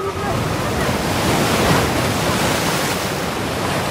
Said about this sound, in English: The water along Chesterman Beach begins to disappear as it draws back into the ocean. A massive tsunami is coming.